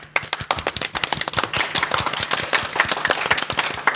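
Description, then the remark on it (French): A small group applauds after a person sings a song, with quick, irregular hand claps overlapping into a steady patter that holds for a few seconds at moderate loudness, with no voices. “Bravo, on peut applaudir.”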